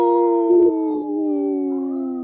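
animal, wolf howling

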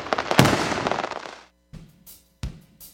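sound effect, fireworks exploding

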